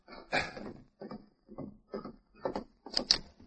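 household object, knock on a door

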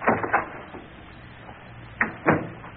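household object, door being opened

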